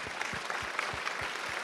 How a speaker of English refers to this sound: These are all our workers. Let's just honor them with applause.